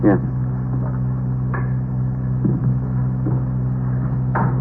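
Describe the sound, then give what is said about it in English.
The door to someone's room is opened for police officers, with a few short knocks and latch clicks over a steady low mechanical hum, with no clear voices. “Open the door.”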